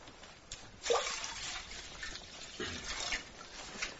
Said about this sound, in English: Put the water on to boil.